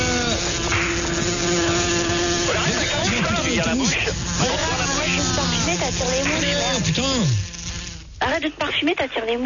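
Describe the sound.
A voice imitates a buzzing fly: a steady, wavering drone that swoops up and down in pitch for about eight seconds, then cuts off, leaving brief scattered noises.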